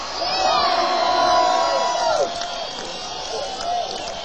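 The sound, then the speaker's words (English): A large live crowd at a music show in Irvine at night cheers and screams in a loud, sustained roar, with high shrill voices standing out, swelling for about two seconds before easing slightly and rising again. “If you sing this song with me, I'm sure that with our machines up here, and this great crowd we have here tonight, and we can go back far enough.”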